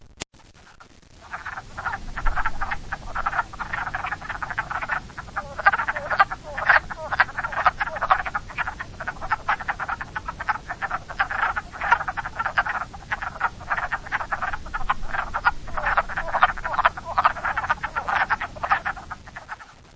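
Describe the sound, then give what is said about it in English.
Between 6 and 12 wood frogs give dense, clucking croaks from about a second in, individual calls still distinguishable but often overlapping, steady and moderately loud with no voices. “This is generally between 6 and 12 wood frogs.”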